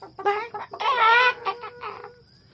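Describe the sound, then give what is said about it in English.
Chickens cackle in a quick run of clucks, breaking into one loud, drawn-out screech midway before trailing off into softer squawks. Fairly loud, with no talking. “They screeched and cackled when they saw him.”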